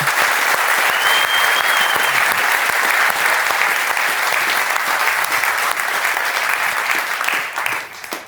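Loud, sustained applause from an audience, a dense wash of clapping that holds steady for several seconds before tapering off at the end, with no talking over it.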